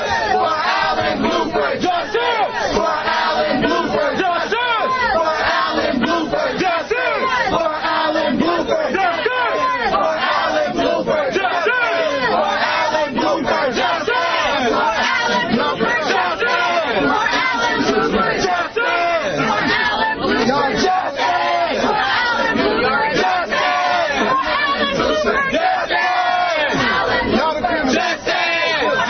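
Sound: protest crowd chanting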